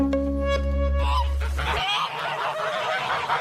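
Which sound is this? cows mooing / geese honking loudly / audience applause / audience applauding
geese honking loudly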